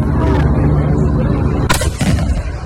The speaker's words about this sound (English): No, he had a party, and every 4th of July he fires the Civil War cannon that he keeps on his front porch, his lawn.